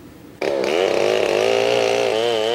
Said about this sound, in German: Mit der Säge kommt der Tod, prognostiziert der WWF. Jede Minute verschwindet eine Fläche des Regenwaldes, so groß wie 3 Fußballfelder.